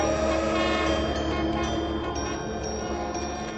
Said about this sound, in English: The sound of freight trains begins to sound suspiciously like broadcasts on the Pirate Station.